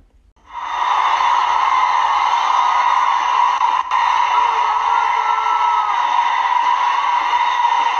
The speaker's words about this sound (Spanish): No tardó en filtrarse un supuesto fan que decía que en el video que ahorita voy a compartir, alguien le dice claramente, se escucha un grito que dice: hoy la matan.